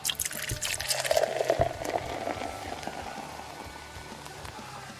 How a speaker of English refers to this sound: Okay. Pour it. Pour it into that glass.